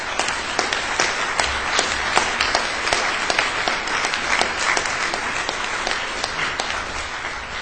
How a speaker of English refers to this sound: If you ever were a Scout, Cub Scout, Boy Scout, Girl Scout, would you stand? If you were ever a Scout leader, would you stand up? Let's give all of you a round of applause.